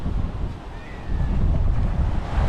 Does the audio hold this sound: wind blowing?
yes